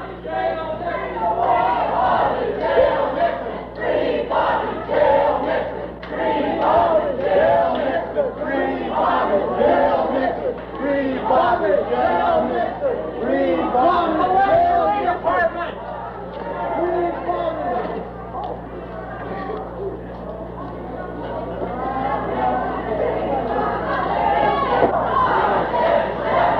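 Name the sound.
protesters chanting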